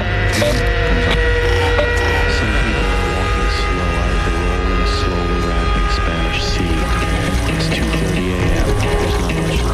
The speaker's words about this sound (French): Il y a juste un endroit, ça fait di di di di tout di di di di. La lumière du frigo. Ça monte comme ça.